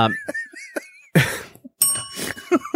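A bicycle-style bell rings with bright, ringing dings to mark trope number 17, followed by loud thumping or rattling bursts and a few brief tones that fade out.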